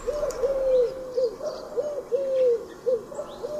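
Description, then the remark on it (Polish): A Eurasian collared dove coos twice in succession, each phrase three soft hollow notes with a drawn-out, stressed middle syllable and a lower, abruptly clipped ending, with faint background birdsong. “Składa się ono z trzech sylab. Druga sylaba jest przeciągnięta i wyraźnie zaakcentowana, a trzecia wyraźnie niższa od pozostałych i raptownie urwana.”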